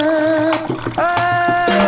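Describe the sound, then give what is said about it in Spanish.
River water flows in a steady, fairly loud rush, with sustained tonal notes running alongside it throughout. No one speaks. “Hoy el río suena, hoy el río canta.”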